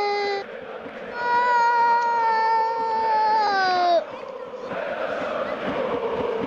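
A single high voice imitates Crvena zvezda (Red Star) fans cheering a goal that makes it 2-2: a long, loud, sustained vocal roar held for a few seconds, then dropping into a softer, breathy crowd-like hiss.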